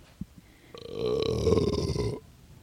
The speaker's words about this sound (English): Did you hear that? Yeah, thanks. Good bark. That was a big one.